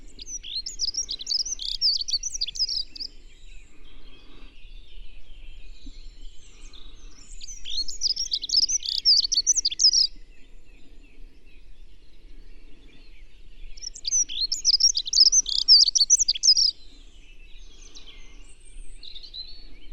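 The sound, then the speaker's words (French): Three quick, high-pitched warbling bird song phrases, each lasting a couple of seconds, rising out of a quiet outdoor background with pauses between them; a dunnock singing clearly. “d'un accenteur mouché lui a coupé le souffle.”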